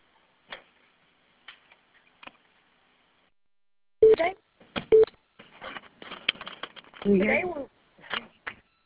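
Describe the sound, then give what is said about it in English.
Two short telephone keypad beeps about a second apart as star 6 is pressed to mute a phone on a conference call, surrounded by scattered clicks and taps, with muffled, indistinct voices on the line afterward. “Because of the background noise, we will ask that you please mute your phones by pressing star 6.”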